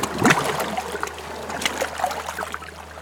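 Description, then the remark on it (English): Water splashes and sloshes against a diver's faceplate in irregular bursts, louder at the start, over a steady low hum with no voices. “Water splashes against the faceplate.”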